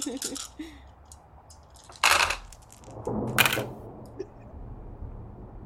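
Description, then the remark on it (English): Dice clatter across a hard table in two quick bursts about a second apart, with faint murmuring voices briefly at the start; the dice are being rolled for a conflict resolution in a game. “Make a conflict resolution. And it'll be 4 dice.”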